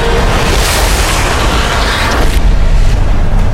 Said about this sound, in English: A bolt of lightning cracked the earth before Wanho, blinding him. Thunder ripped over him and over both armies, dropping men to the ground on both sides.